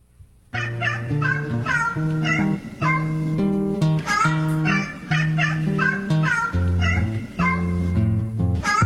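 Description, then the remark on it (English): A run of cat meows repeats in a steady rhythm over a sustained, tuneful backing, loud and continuous for several seconds, like meows strung into a little melody. “Kitty caught a mouse.”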